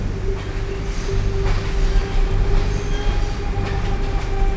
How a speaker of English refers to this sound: The train journey from London to Glasgow was uneventful, and I'd buried my nose in a book.